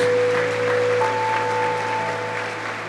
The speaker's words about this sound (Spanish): Un aplauso a las palabras del Señor a través de Pablo.